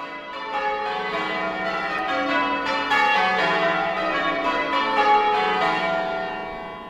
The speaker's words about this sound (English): Bells are life to me. I mean, it never seems a Sunday to me if we don't hear the bells. That never seems Sunday if you can't hear church bells going.